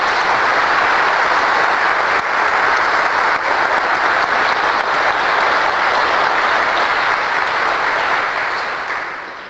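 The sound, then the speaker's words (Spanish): Sustained applause from a large crowd, a dense, steady wash of many hands clapping at once for about nine seconds, loud throughout and tapering slightly at the very end. “Después de tantos años vamos a dar un aplauso por...”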